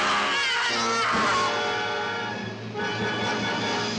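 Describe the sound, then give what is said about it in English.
A woman's shrill, wavering off-screen scream from a character in a Dracula horror film rises twice in the first second and a half, loud, then gives way to sustained dramatic orchestral music that keeps swelling underneath. “So again, we hear that scream.”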